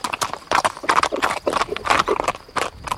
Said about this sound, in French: Angelo poussa son cheval qui prit le trot.